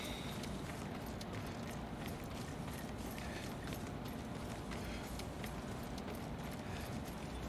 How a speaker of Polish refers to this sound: Koń Yuriko. Musi być blisko.